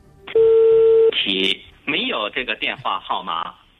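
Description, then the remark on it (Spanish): A telephone keypad tone sounds once as a steady beep lasting under a second as a number that appears on many phones in China is called. A recorded voice follows over a thin, phone-line quality connection, saying in Chinese and then English that the number is not in service. “Es ese número de teléfono al que hace también pocos minutos hemos llamado”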